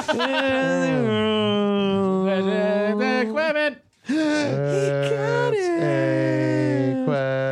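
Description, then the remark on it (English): A single voice hums a tune in long, sustained notes that glide between pitches, pausing briefly midway before carrying on loudly to the end. “Hang on. I'll hum it.”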